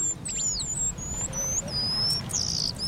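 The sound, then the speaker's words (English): Eastern paradise whydah, a small East African finch about 5 inches long, calls: a series of thin, high whistled notes and short sliding chirps, some drawn out, repeating over a steady low background rumble. “A few times each year, the eastern paradise Waida puts on its party clothes.”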